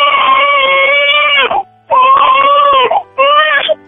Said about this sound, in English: Oh, that's a baby!